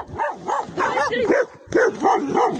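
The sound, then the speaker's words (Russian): Several stray dogs bark in a rapid, overlapping chorus, the loud yaps and woofs tumbling over one another almost without pause, with a brief lull partway through. “Бродячие собаки терроризируют жителей Екатеринбурга.”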